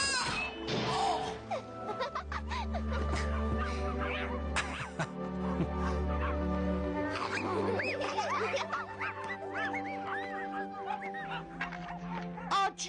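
Teething puppies yip and whimper in a steady stream of high, squeaky cries and short whines, fairly loud, with a sustained tonal backdrop underneath throughout.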